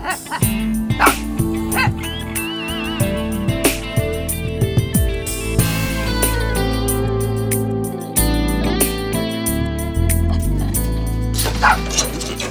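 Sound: dog barking and whimpering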